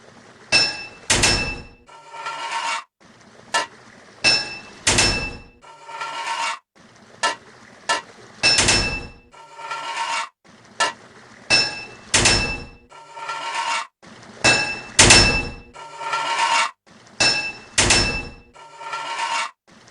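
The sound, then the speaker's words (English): A hammer strikes metal pipes again and again to fit them, loud, the clanging blows often landing in quick pairs with brief pauses between, two hits fitting each pipe, and nobody speaking. “2 hits of a hammer to fit a pipe.”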